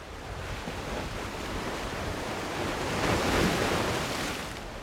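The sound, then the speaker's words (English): Steady roar of North Atlantic ocean surf crashing against a long granite breakwater at a harbor in Gloucester, a broad wash of noise that swells louder toward the end, with some wind rushing across the microphone and no voices. “past a long finger of granite breakwater that absorbs the thunder of the North Atlantic”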